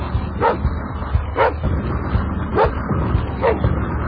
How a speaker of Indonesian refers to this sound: Dan benar saja, seekor anjing hitam sedang menyalak di luar rumahku. Aku tidak mengenal anjing itu.